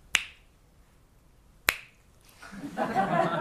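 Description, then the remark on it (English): Two sharp, crisp finger snaps marking the start and end of a session of resting in awareness, about a second and a half apart, loud with quiet between them, followed by a rising wash of soft noise or murmuring toward the end. “I'll snap my fingers, we'll start, and then when I snap it the second time, then the session's over.”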